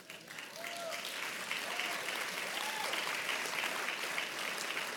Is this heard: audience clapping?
yes